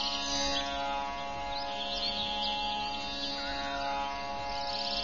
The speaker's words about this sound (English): Behold, it is now the Brahma Muhurtam, the pre-dawn period. Cool and refreshing breezes are wafting. Birds are up and making soft chirping sounds.